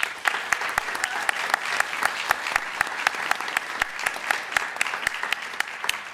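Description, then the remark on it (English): An audience at the Welcome Genome Campus applauds a panel steadily, a dense wash of many hands clapping at once with sharp individual claps popping out, sustained at an even level for several seconds without talk. “Please give everyone a round of applause.”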